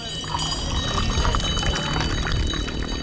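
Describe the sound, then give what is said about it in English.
A water seller at a bus stop pours cool water steadily from a furry sheepskin sack carried on his shoulder into a cup, a continuous gurgling splash lasting a few seconds with no voices. “That signals him to pour a cup of cool water out of the furry sheepskin sack he carries on his shoulder.”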